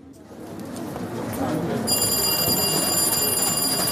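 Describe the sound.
Busy indoor murmur of voices and bustle, then about halfway through a shrill telephone bell starts ringing steadily and loudly over the din, telephones in London newspaper offices as journalists rush about over news of sailor Donald Crowhurst.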